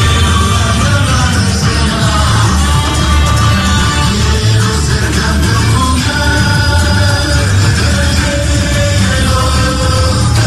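A loud live band performs amid a roaring crowd, with sustained sung notes and instruments blending into a dense, unbroken wall of sound and cheering throughout.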